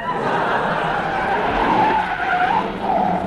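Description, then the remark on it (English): A car drives loudly with tires skidding and squealing, a steady wavering screech over engine rumble that holds for several seconds. It is a rally car, number 76, following behind. “There's a car behind us.”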